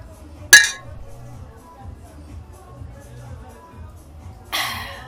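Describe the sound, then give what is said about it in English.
Two bright glass clinks ring out in a toast, one near the start and another about four seconds later, over a low murmur of background chatter and room noise. “Cheers.”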